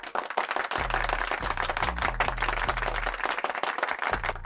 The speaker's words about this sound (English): Outstanding game for Jabari Smith. Not only will we give him a round of applause,